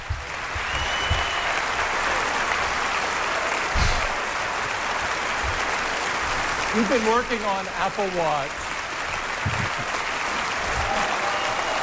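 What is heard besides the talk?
audience clapping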